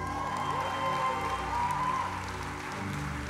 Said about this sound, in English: All right, wait. I gotta tell you what you're clapping for.